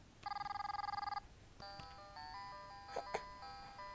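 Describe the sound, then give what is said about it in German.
A nearly 8-month-old baby girl's new toy telephone, lying about 3 metres away, rings with a rapid trilling electronic bell for about a second, then plays a short beeping, tinny melody of electronic tones, fairly loud, with no voices. “Tja, meine Lieben, das ist das neue Telefon von meiner kleinen Tochter mit ihren fast 8 Monaten.”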